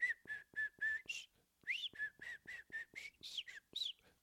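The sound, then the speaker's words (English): Someone whistles an imitation of the song of birds heard from a back porch: a quick run of short, high chirping notes with occasional upward swoops, a brief pause, then another rhythmic burst of the same calls. “And I was sitting on my back porch, and I heard these birds, and they were going.”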